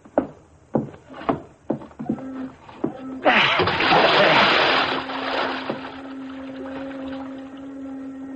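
body splashing into water

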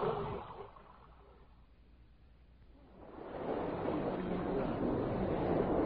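boat moving through water

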